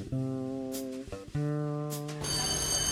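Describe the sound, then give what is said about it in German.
A school bell rings loudly in two long, steady bursts with a brief break between them, then shifts into a brighter, harsher ringing at the end, calling the children back into class. No voices are heard. “Mit dem Klingeln kommen die Kinder zurück in die Klasse.”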